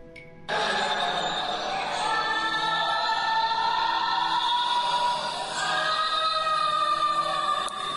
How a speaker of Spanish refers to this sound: Sí, se oye ahí un grito. Esto me transmite como dolor, como un estado de angustia.